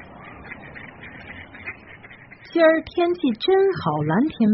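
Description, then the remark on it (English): Ducks in a park quack loudly in a rapid, uneven burst of nasal calls, following a couple of seconds of soft outdoor background noise. “My best memories are from walking around here feeding the ducks.”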